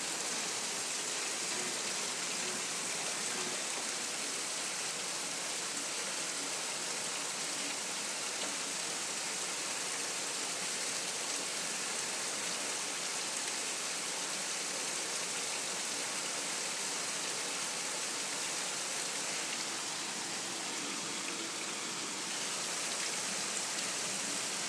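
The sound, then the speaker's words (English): Heavy rain pours down steadily for the whole stretch, a dense, even hiss of countless drops hitting surfaces, with no voices or other sounds breaking through. “Now it's really starting to rain.”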